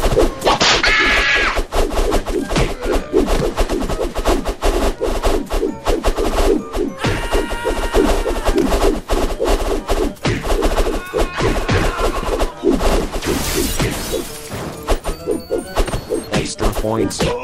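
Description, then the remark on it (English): Sharp whip-crack sounds, signalling that the player has been hit in a video game, snap out repeatedly amid a loud, busy mix of video-game music and clattering effects, with crisp, percussive cracks cutting through prominently. “So, the whip sound in the center means that you've been hit.”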